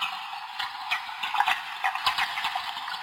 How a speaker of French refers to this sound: les harengs communiquent en pétant